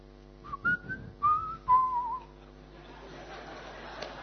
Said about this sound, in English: somebody wants to hear his own music. So he can whistle, na? Right? You can whistle.